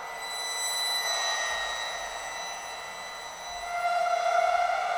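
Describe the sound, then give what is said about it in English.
Bronze cymbals are bowed, and bent while being bowed, pulling out layered, shimmering metallic harmonics and weird overtones; the pitch bends and wavers into an eerie, elephant-like wail, like a scary brass section, that swells louder toward the end. No one speaks. “And I'm doing it by bowing some bronze cymbals.”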